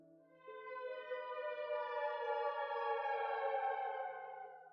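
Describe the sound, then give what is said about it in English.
A steady, droning warning siren like an air raid siren blares in the distance after an earthquake, holding one pitch for several seconds, rich in harmonics and echoing, with no voices over it. “Not like an ambulance, it sounded like an air raid siren or some other kind of warning.”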